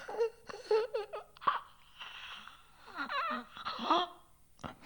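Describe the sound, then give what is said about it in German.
A voice pants and rasps in quick, uneven bursts, with strained gasping breaths and rattling throat sounds broken by brief pauses, fairly loud, with no ordinary talking. “Hecheln, röcheln.”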